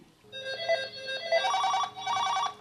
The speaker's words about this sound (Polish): Ciężko porozmawiać, jest dużo telefonów, dużo spraw, czasami pomyłek.